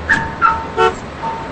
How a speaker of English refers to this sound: He walks away and locks the car doors with the remote.